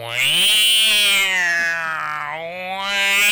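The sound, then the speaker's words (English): A human voice imitates cats' mating yowls: one long, loud, wavering wail that rises, dips and swells again for about three seconds, with no other sounds around it. “I could hear the two cats out there doing their mating thing, mm-hmm, you know.”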